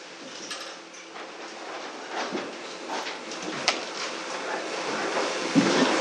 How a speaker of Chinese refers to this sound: 好，没有，我们弟兄姊妹就可以把这个椅子摆一摆，前面摆成一个圈，我们可以一起来讨论分享。